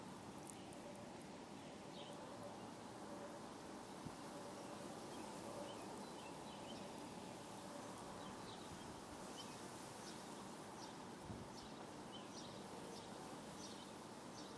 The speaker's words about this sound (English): But you can hear other birds in the area. A bit of traffic.